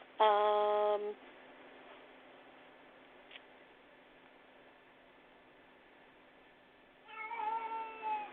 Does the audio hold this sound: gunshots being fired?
no